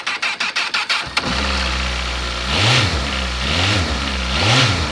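A touring motorcycle engine cranks over in rapid starter pulses, catches after about a second, then idles steadily close by with three brief throttle blips rising and falling.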